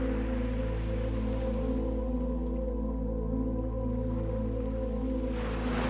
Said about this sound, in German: Und auf das Rauschen der Wellen.